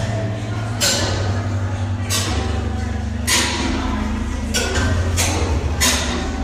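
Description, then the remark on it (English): A huge mechanical music machine, The Music Box, a sculpture by artist Dave Cole made from a giant roller compactor (steamroller), grinds out a slow version of the Star-Spangled Banner in loud, low droning notes, with heavy clanking bursts roughly every second or so throughout. “It's a giant roller compactor, what we call a steamroller, that plays the Star-Spangled Banner.”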